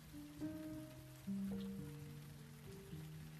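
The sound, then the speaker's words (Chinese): Steady rain patters on the eaves of a roof, a continuous soft hiss of drops, with sustained low musical tones shifting pitch underneath. No one speaks. “我在感受雨滴落在屋檐发出的声响。”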